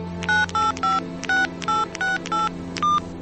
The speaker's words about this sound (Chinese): 他想了很久，终于哆哆嗦嗦地拨通了电话。